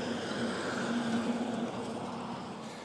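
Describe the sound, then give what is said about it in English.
A school bus on its way to pick up children at a school drives by on a street in Niagara-on-the-Lake, with a steady, droning engine rumble and broad road noise that holds fairly constant throughout, with no talking. “Here comes another school bus going to pick the kids up at Parliament Oak.”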